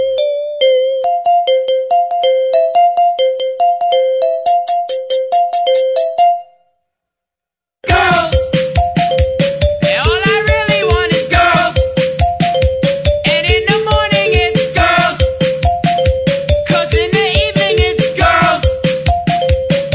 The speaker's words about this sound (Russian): Если вам все это близко, такой рингтон просто must have.